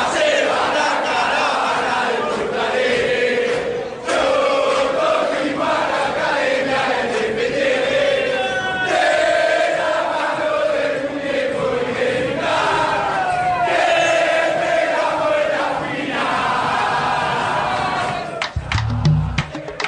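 A huge crowd of River Plate football fans sings a melodic chant in unison, a reworking of a classic song, loud and sustained for the whole stretch, with a rhythmic rise and fall and a low thump near the end, after River Plate won its fourth Copa Libertadores.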